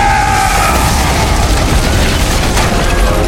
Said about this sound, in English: Solon blew out the entire wall. Stones rained on the crowd 50 paces away.